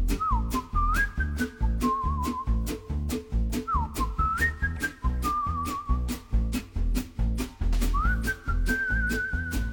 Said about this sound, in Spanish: Ay, este silbidito, cómo me gusta.